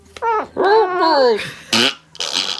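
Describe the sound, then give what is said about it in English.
A fairly loud fart with squeaky, tonal bursts whose rising and falling pitch resembles a muffled two-word plea, like "help me", followed by a short hissy puff and trailing airy noise. “How can a fart sound like help me?”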